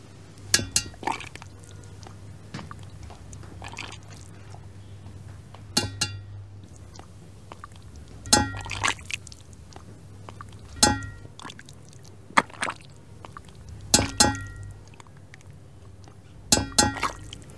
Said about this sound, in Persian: اینجا یه دونه تونگه، یه ذره عقب‌تر، خب توشم پر آب. اینجا جیمشیدم ماهی قرمزه. اجازه بده چند تا ضربه به تونگ بزنم.